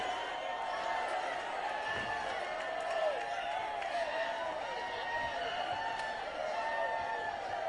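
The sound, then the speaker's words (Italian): An audience shouts "Bollywood" together, a dense wall of many voices with wavering, chant-like pitch that stays loud and steady for about eight seconds. “sale il grido Bollywood da parte del pubblico.”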